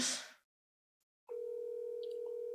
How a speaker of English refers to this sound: That's how we make calls. Oh, he's not going to pick up.